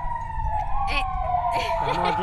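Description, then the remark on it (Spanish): A steady siren wails nearby, sounded at a municipal barracks, holding a sustained tone over low traffic rumble, with brief bursts of voices or noise cutting in partway through. There is no emergency. “Estamos al lado del cuartel municipal y no sé qué pasó que les dio con tocar las sirenas, pero pienso nada, todo está cambio, bien por si acaso.”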